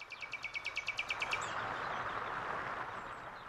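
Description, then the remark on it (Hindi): An Asian koel gives a quick run of about a dozen sharp, high notes over a second and a half, then stops, leaving steady outdoor background hiss. “ये कोयल की कूख, नैसर्गिक संगीत”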